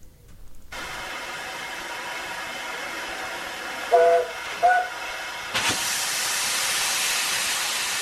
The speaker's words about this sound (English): here is a report on one of Somerset's preserved steam railway lines